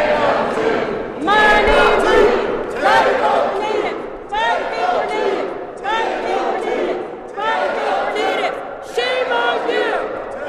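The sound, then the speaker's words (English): Competing protest chants: a loud crowd of ASRC leaders and supporters shouts "10:02" in steady repeated bursts, about every second and a half, while a woman chants against it, all continuous. “It culminated in competing chants, the woman versus a large crowd of ASRC leaders and supporters saying 10:02, referring to the part of the refuge where it's now legal to drill.”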